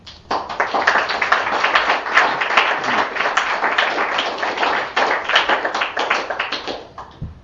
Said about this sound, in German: Einen herzlichen Applaus nun für Werner Murlan.